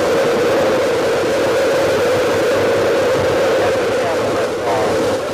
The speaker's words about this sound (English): Gone for main engine start. We have main engine start.